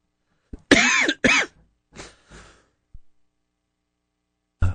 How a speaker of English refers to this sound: Excuse me while I cough my head off.